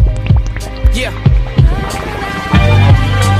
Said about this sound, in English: you know what that sound like? Feel the heartbeat. Feel the heartbeat on your eardrum.